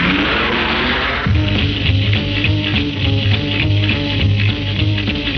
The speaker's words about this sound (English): Start the car again.